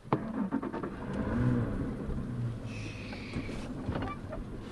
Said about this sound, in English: navigates a center console bay boat through the Barataria Basin, a collection of canals, bays, and bayous south of New Orleans on the west side of the Mississippi River.